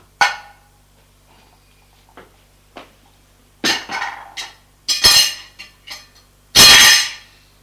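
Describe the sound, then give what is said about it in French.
Several glassy clinks and clatters as glasses are set down on a table come in irregular bursts, louder and brighter toward the end, with quieter taps in between and no talking. “Puis, cherche les verres. Les trouve. Posé sur la table.”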